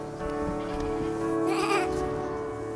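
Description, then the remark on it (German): A sheep on a pasture bleats in a long, wavering cry lasting a few seconds, steady in volume, its quavering rising toward the middle before trailing off. No one speaks. “Hier auf der Weide, bei unseren Schafen, müssen wir wachen, müssen wir schlafen.”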